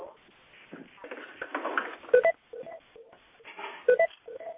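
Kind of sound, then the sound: signal or alarm, telephone beeping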